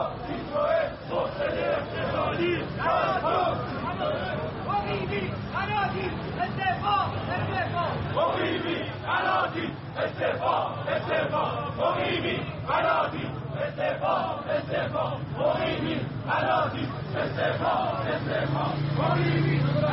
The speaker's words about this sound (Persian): چهارم دی ماه 1397 روبروی سازمان صنعت معدن تجارت تجمع پیشخرید کننده خودرو از شرکت سایپا و ایران خودرو.